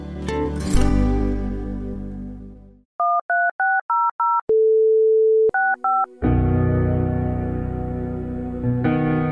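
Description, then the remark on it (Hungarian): A run of short two-tone keypad beeps in quick bursts, then a steady dial tone, followed by a few more key presses, dialing a phone number and extension to donate to Mária Rádió, all loud and clear between stretches of music. “A 13600-as telefonszám felhívása után a 65-ös mellékbeütésével tudja támogatni a Szüzanya Rádióját.”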